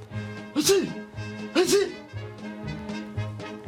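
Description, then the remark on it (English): A voice mimics a dog sneezing, two sharp, breathy bursts about a second apart, fairly loud, with softer voiced sounds continuing between and after them. “As per my orders, he sat down in the midst of the wreckage and started sneezing.”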